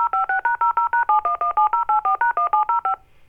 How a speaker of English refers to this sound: And then all those mysterious DTMF tones at the end. Isn't that fun?